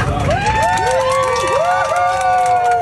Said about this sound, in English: First of all, why are people cheering like that? People are cheering like they just said you can take two bags of chips instead of one.